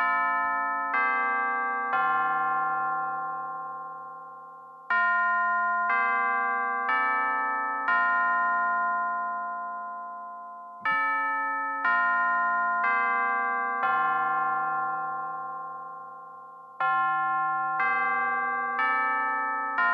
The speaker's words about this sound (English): That was Grandma's Doorbell.